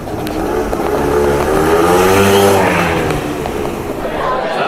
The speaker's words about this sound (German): Ich schwing mich auf meinen Roller.